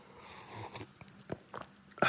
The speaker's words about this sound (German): Jetzt trinke ich erstmal einen Kaffee, ich habe schon wieder vergessen, wo wir waren.